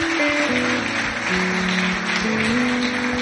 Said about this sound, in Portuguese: Dê um forte aplauso para Jesus. Glória a Deus. Glória a Deus.